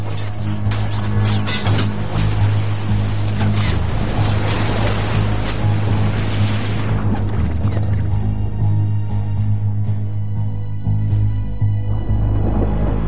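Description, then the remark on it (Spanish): Loud rush of churning water for several seconds, then it fades into a steady low mechanical hum with faint ringing tones, as the submarine Growler dives beneath the surface to approach a Japanese convoy underwater. “Gilmore ordena sumergirse y decide acercarse al convoy bajo el agua.”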